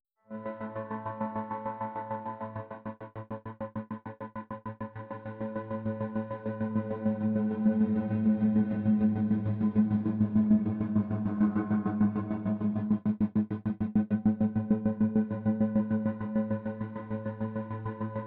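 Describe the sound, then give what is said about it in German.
A sustained harmonic music tone pulses rapidly in a steady tremolo rhythm from a Shaperbox plugin set to 71%, the throbbing growing louder and deeper partway through as it is turned up to 100%, then settling into a strong, even pulsing to the end. “Und die Shaperbox, die lässt das Ganze wieder pulsieren. Allerdings in dem Fall nicht auf 100%, sondern nur auf 71%.”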